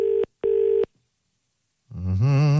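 A double burst of steady electronic ringback tone on a phone line, two short rings close together, then silence before a voice answers and begins talking.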